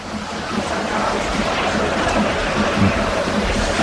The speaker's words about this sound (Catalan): Continua la cortina d'aigua.